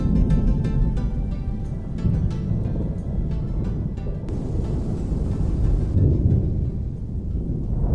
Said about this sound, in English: There's a dark thunderstorm in the air, and the wind is rising as we leave the gate of Villa Kellermann together.